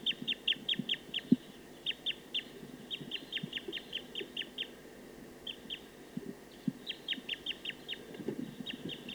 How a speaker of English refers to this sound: So recording a wild bird.